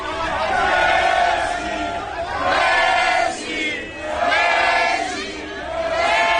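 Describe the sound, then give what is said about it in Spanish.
An excited crowd at the door of Leo Messi's new clothing store in Barcelona, at its official opening, shouts and cheers in loud, surging waves, voices rising together roughly every couple of seconds with a dense chatter underneath. “Este es el sonido que había hoy en Barcelona, en la puerta de la tienda donde se vende, la tienda, la nueva tienda de ropa de Leo Messi.”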